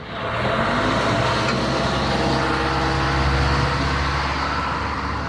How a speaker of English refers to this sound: It's a rainy Tuesday in Kenya's second capital city, Mombasa. I have alighted from public transport matatu to take a public transport motorcycle, commonly known as boda boda, to the area known as Katisha.